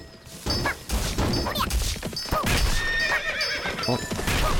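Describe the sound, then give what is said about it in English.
Several horses in a video game neigh and whinny repeatedly over a busy clatter of hooves and occasional crashing impacts, loud, with no talking. “God damn, there really are horses everywhere.”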